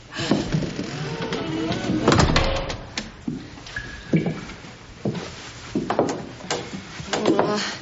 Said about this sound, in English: Here I come. I'm opening the door.